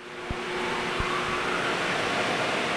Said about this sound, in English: A fan blew all that water into a floor grate to be recycled for the next wash. The state of California requires it. 80% of the water is recycled.